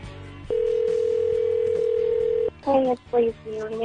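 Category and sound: signal or alarm, phone call ringing tone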